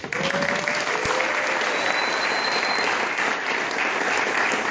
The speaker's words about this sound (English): So if we can clap for him.